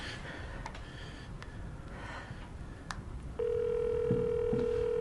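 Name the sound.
telephone ringing tone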